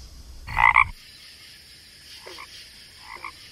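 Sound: frogs croaking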